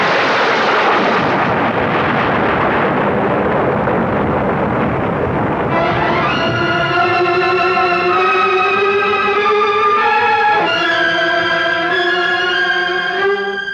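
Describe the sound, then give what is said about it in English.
A bolt of lightning strikes Calcimal's iron helmet with a loud, crackling thunderclap and explosive rumble that roars for several seconds. It gives way to a sustained, eerie ringing tone that shifts pitch once before the end. No one speaks. “A bolt of lightning went straight to Calcimal's iron helmet as though he were a lightning rod.”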